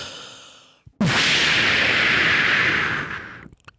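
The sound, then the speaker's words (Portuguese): A sharp pop sets off a loud, steady rushing hiss, like a smoke bomb going off, which sustains for a couple of seconds before cutting out abruptly. A fainter hissing tone fades just before it. “Bombinha de fumo.”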